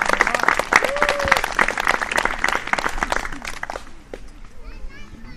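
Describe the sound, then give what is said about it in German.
A crowd breaks into sustained applause for God at a religious gathering, dense clapping lasting about four seconds before fading, with children's voices and chatter mixed in and continuing briefly after. “Gebt ihm einen Applaus!”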